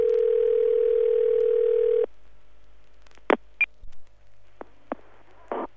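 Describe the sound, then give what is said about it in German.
A steady, loud telephone line tone holds for about two seconds, then cuts off, followed by a few short clicks and brief beeps on a quiet line, as a call connects to the automated telephone information service of the Hotelrestaurant Hase in Laatzen-Grasdorf. “Sie hören eine automatische Telefonauskunft.”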